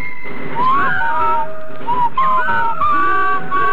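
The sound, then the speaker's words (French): A person whistles the Colonel Bogey march, a bright, bouncy melody of clear notes rising and falling over a few seconds, with a low murmur of background noise underneath. “Tout le monde sifflait dans la rue, c'était un phénomène presque national.”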